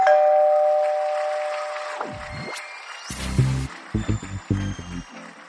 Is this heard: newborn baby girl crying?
no